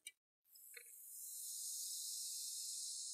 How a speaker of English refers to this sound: Listen to that first sip. Here's that first sip feeling. You hear that? Did you hear that? Wait, hear the fizz.